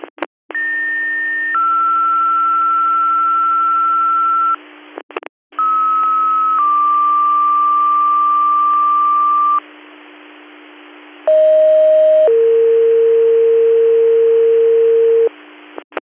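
Three back-to-back dispatch pager alert tones over a radio channel, each a short steady tone stepping down into a longer held tone, loud and clean against a faint hiss, with brief clicks between sequences. A retone from Weco control paging the Campville squad for a mutual aid call.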